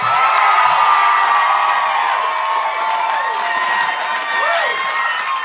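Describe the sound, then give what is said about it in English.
A crowd cheers and applauds loudly and steadily, with whoops and high shouts rising above a dense wash of clapping that holds for several seconds, as an audience welcomes a musician on stage at the Skyline Drive-In on the Brooklyn waterfront during the New Yorker Festival. “Please freak out for”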